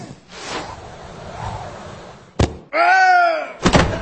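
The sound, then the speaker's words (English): A sharp, sudden blast of a cannon firing cuts through a noisy background, followed by a short wailing cry from the man it hits and then a heavy thudding impact. “Well, it is a moot point, as Harry has killed the poor man with his aid cannon.”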